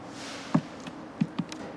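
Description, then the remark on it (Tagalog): A handful of soft, dull footsteps of a woman in office attire with a shoulder bag walking toward a seated passenger on a bus, tapping in an uneven rhythm over quiet background hiss, each one short and muffled, the later ones slightly louder and closer together. “Talagang hindi ko napigilang mapatitig sa kanya habang naglalakad siya palapit sa akin.”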